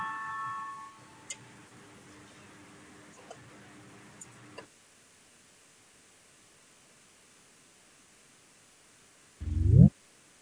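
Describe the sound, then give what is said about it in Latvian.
A parliamentary voting bell rings before a vote with a steady tonal chime that fades over several seconds amid light ticking, then quiet, before a brief loud rising sound near the end. “Lūdzu, zvanu, balsosim par 25. Zaļo un zemnieku savienības frakcijas priekšlikumu.”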